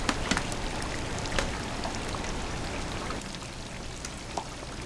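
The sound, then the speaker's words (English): A steady hiss of food deep frying in a big fryer, dense bubbling and sizzling with scattered sharp crackles and pops throughout, heard alone without any talking. “The bubbles are coming from the moisture in whatever you're frying.”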